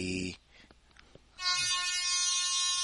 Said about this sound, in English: That's the air horn. Oh, wait. That's the air horn. That's a little loud. That one's cool. I like that.